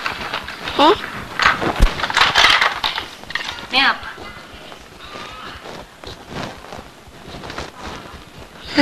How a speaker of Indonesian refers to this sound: Serutan kayu. Ini kan kayunya nih. Diserut, Mas.